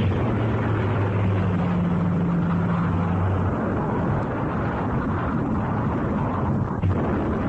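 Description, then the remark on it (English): A loud, continuous roar of Japanese warplane engines, with a deep droning hum for the first few seconds, mixed with rumbling bomb blasts and dense chaotic noise as the planes bomb the American naval base at Pearl Harbor, Hawaii, on December 7, 1941. “Japanese planes bombed the American naval base at Pearl Harbor, Hawaii on December 7, 1941.”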